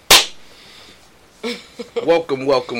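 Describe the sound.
A single loud, sharp hand clap, clapping in to start a recording, rings out with a brief fading tail, followed by a second of quiet before a person starts talking.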